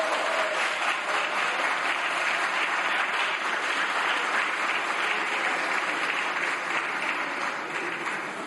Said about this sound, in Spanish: Los que han aplaudido son los diputados de Vox, no la bancada socialista.